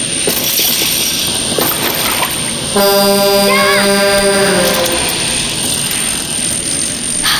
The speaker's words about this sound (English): Are you serious? Another drone? Go away, leave me alone. Fine, see if I can lose you.